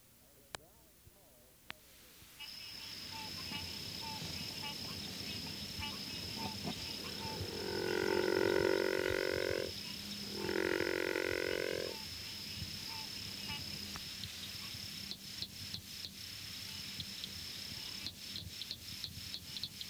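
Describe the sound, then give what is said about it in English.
A river frog gives two low, rasping growling calls in quick succession, each lasting about two seconds, over a steady high insect drone and scattered faint clicks. “Although the species is often fairly common, its growling call is seldom heard.”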